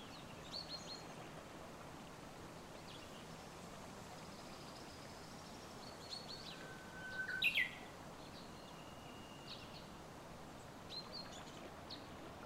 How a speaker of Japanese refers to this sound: 耳を澄ませると、鳥のさえずりが聞こえてきました。その声は、まるで春の始まりを祝福するように、あなたを神社へ迎えてくれているようです。